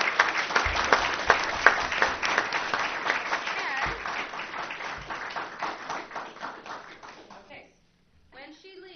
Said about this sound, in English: So let's give her a round of applause for representing our district.